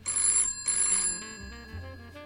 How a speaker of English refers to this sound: She's about to say something when the phone rings next to you. A piercing sound in the heavy air of the night.